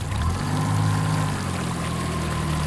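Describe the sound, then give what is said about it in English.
A motorboat engine drones steadily as the boat is piloted through a river channel below a hoist and dam, its low rumbling hum held constant over a wash of water noise. No one speaks. “However, piloting a boat through the channel below the hoist and dam, he can speak to something else.”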